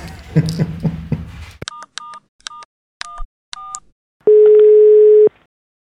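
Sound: phone dialing tones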